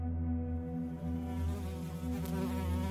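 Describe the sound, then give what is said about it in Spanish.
A fly trying to get into someone's nose buzzes steadily for the whole three seconds, a droning hum with small wavering shifts in pitch and loudness, with no voices. “Otra maldita mosca intentó meterse por mi nariz.”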